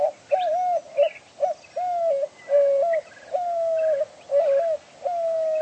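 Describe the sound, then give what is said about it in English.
A dove coos repeatedly in a steady rhythmic series of low hooting phrases, clear, with faint background birdsong and no talking. “The cacti provide doves with a crucial source of water in the driest part of the Sonoran summer.”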